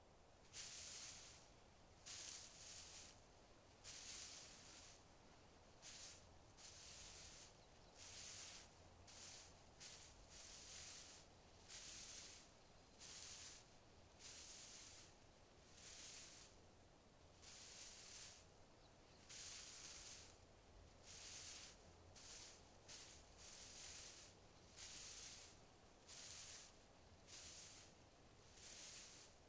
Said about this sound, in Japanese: くすぐったいですか？猫じゃらしはとにかく楽しいんですよね。シャラシャラ、シャラシャラ。